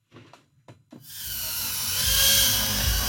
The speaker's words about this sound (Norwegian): Små droner surrer i lufta som hissige bier. Vi inne i klubbhuset til VR Idrettsforening i Tønsberg. Det mørkt, og det en bane med neonlys som disse små dronene skal gjennom. I dag så flyr vi Whoop-droner, som de minste dronene, og driver med racing i